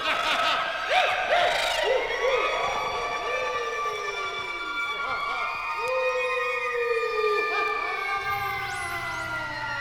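Ghostly screeching and shrieking: several high, wavering wails overlap and slide up and down in pitch, holding steady and loud for the whole stretch without a break.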